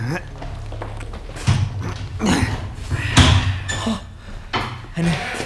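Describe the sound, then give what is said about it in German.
A heavy metal door opens with a series of loud clanks and scraping knocks, spread unevenly over several seconds, with indistinct voices murmuring underneath. “So, öffne die Metalltür da.”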